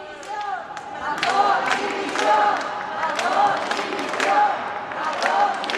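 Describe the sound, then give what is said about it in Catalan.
A large crowd of protesters at the City of Arts and Sciences shouts and chants in loud, overlapping waves against Carlos Mazón, president of the Generalitat Valenciana, demanding his resignation; many voices rise and fall together in a steady, angry roar with no pause. “Aquests crits, aquests clams, aquests retrets també ens arriben en directe.”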